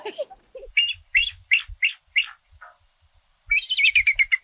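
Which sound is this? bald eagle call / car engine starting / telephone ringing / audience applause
bald eagle call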